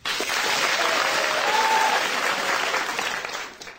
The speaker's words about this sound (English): So, when we shout out the candidates' names, please applaud, within reason, if you think they deserve to be a target for abuse, OK?